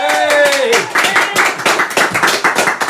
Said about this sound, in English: Big round of applause